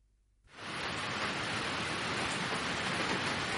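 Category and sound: nature, rain falling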